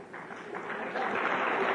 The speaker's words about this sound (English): That line always gets applause on that side of the room. But you heard there was some echoing applause in this side of the room.